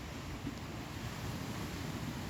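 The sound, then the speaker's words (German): A continuous wash of ocean surf with a low, rumbling undertone, steady and fairly soft throughout, with no individual breakers standing out and no voices. “Erlaube jeder Welle, dass all das, was dich bedrückt und betrübt, dass sie das von dir wegnimmt, wegwischt.”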